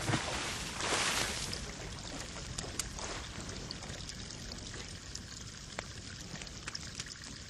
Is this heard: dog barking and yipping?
no